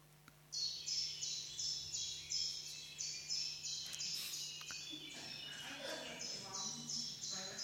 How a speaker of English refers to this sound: It's a chiff-chaff. And that the reason why it's called the chiff-chaff is because it sounds like a chiff-chaff, chiff-chaff, chiff-chaff. It's a chiff-chaff.